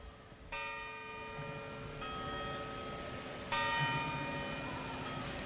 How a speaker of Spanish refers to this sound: Serán 5 minutos de silencio, 5 minutos son repicando también las campanas